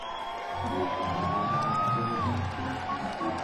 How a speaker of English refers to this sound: Let's give everybody a hand, a round of applause.